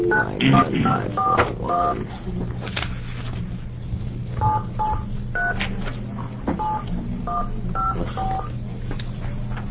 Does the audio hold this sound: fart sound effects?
no